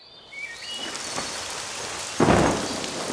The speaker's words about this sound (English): Oh no! It's raining! We're getting wet!